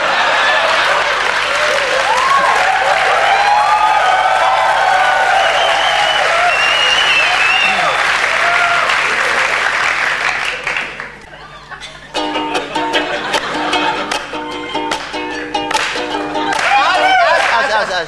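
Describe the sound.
Loud, dense audience applause fills the first ten seconds, then fades out abruptly and gives way to a rhythmic, tonal passage with some voices.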